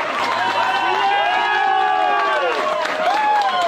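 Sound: applause and ovation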